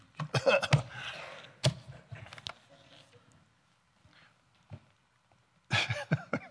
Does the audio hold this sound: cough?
yes